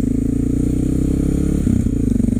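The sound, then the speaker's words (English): A single-cylinder XR650 motorcycle engine runs steadily and loud while riding to town on a beautiful day, recorded by an iPhone wedged between the rider's helmet and ear; its low thumping pulse shifts slightly in pitch as the rider changes speed, with steady wind rumble underneath. “Thank you for joining me on my motorcycle ride today.”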